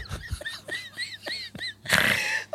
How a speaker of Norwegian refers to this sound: Slutt med det der snorkegreiene dine. Ja. Det er kjempeekkelt.